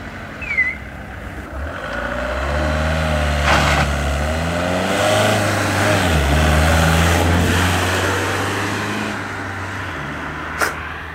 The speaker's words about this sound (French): C'est comme ça, le matin, quand il y a le marché des bras, c'est comme ça, il y a des voitures qui arrivent et ils chargent jusqu'à 10-12 personnes dans la voiture.